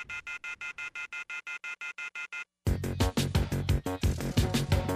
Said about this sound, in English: The telephone keeps ringing, so I ripped it off the wall.